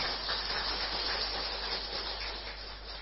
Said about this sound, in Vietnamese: Chúng ta hoan hình chung một tràng pháo tay.